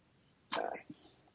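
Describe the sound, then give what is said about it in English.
A single sharp sneeze bursts out, a loud explosive blast followed by a short trailing breath, with quiet room tone before and after. “I didn't hear everything, but I'll bless you.”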